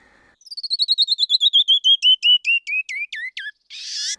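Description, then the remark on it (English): A canyon wren's song: a cascade of about twenty clear, whistled notes that start high and rapid, then slow and slide downward in pitch, ending in a short buzzy rasp. “The descending crescendo of a canyon wren.”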